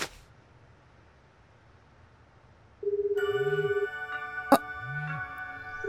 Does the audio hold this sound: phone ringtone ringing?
yes